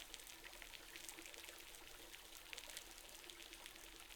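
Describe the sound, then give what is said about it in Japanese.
A steady fizzing hiss of carbonated shampoo foam being dispensed during a hair wash, dense with tiny crackling bubble pops that continue evenly for several seconds, with no voices. “これはね、本当は2回目も普通のでいいんだけど、しっかり毛穴の汚れと地肌の血行をさらに良くしてくれる魔法のシャンプー、炭酸シャンプーだよ。”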